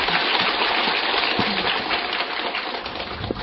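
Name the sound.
audience applause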